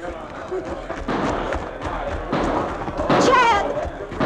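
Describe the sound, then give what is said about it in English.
A series of sharp, irregularly spaced gunshots from the town jail, as a bank crook breaks out, pops through a busy, murmuring commotion, with a whistling, wavering tone rising briefly near the end. “Those shots are coming from the jail.”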